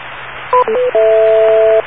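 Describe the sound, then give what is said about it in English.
A quick run of short electronic tones stepping in pitch, then a single long, steady beep lasting almost a second, all over a thin, hissy telephone-line background. “Wait for the beep.”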